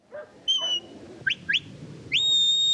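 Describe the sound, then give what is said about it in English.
At a ranch herding class, an owner blows sharp, high-pitched herding whistles directing Ritz, a black and white border collie, to bring in a flock of sheep: a short steady tone, two quick rising chirps, then a long sustained rising blast, over a low background rumble. “whose whistles direct her how and where to bring in the flock”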